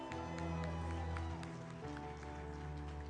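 An audience claps in a steady, scattered patter for a young man holding the camera who has given his heart to Jesus Christ, while sustained organ-like tones hold underneath, with a low murmur of voices mixed in.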